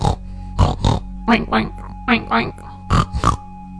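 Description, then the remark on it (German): A person imitates a pig, making a series of short, rough grunting and oinking sounds in irregular bursts, fairly loud, with brief pauses between them. “Dabei bist du ja sehr vorsichtig, denn du bist ja ein sehr kluges Schwein. Du grunzt vor dich hin.”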